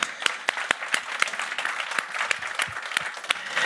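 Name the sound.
thunderous applause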